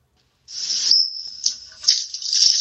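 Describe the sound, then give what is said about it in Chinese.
Water gushes suddenly from a tap as the water supply comes back after a moment of silence, a steady hissing stream that sputters and surges a few times, fairly loud. “哇，有水啦有水啦，水龙头有水出啦！”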